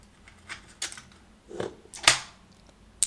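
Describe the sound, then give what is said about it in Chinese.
Five dice rattle in a cupped hand for a dice game, a few irregular clicking clatters that come and go over a few seconds, with no one speaking. “我手里有五颗骰子，30点，15以上算大，15以下算小，3局2胜。”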